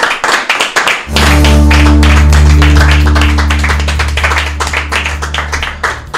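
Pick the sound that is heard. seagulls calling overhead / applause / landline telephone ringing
applause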